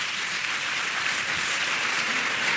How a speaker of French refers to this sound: On peut t'applaudir, je pense. 21 ans étudiant.